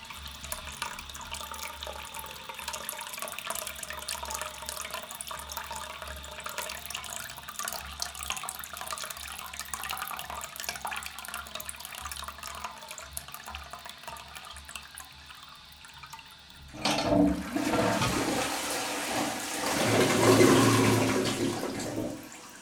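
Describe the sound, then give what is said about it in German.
A tap runs steadily for about fifteen seconds, then a toilet flushes with a louder, turbulent rush of water that swells toward the end. No voices. “Ich muss gerade echt dringend aufs WC.”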